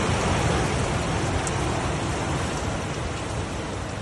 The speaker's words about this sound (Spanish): Eran las 5 de la madrugada del 29 de octubre de 2024 cuando una lluvia débil seguía cayendo en la localidad albaceteña de Letur.